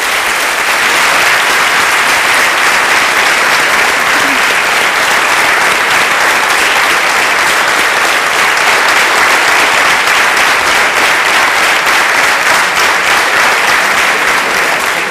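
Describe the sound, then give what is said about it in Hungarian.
Sustained, dense applause from an audience, loud and steady throughout with a continuous crackle of many clapping hands and no pauses. “És akkor ezt mondom, és ne tapsoljanak tovább, hogy ámen.”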